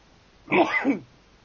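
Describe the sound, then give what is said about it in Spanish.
A single small, stifled sneeze, a quick half-second burst in two parts, with quiet before and after and no talking. “Estornudito para ambientar.”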